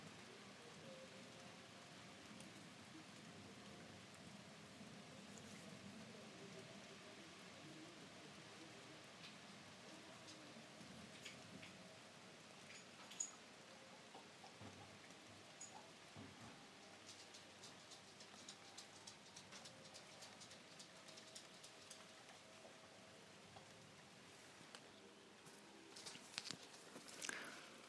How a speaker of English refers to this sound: the rain's coming back, it's bound to get worse. Here we go, here comes the rain. Again.